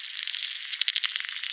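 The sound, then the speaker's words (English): Underwater river bugs, their sounds isolated from the background by a computer detection tool, make a dense, rapid rattling of high, dry clicks that keeps going steadily, with a couple of sharper ticks partway through. There is no talking. “The isolated sounds of river bugs.”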